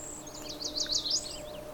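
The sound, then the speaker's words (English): A quick series of thin, high-pitched calls from birds preening up high, wavering up and down over about a second, fairly faint against a low steady background hum. “Ah, there were some of their high sounds.”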